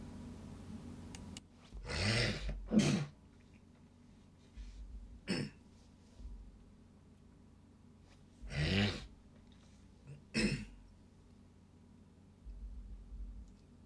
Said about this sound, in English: What is going on? I have to hit the cough button a second here.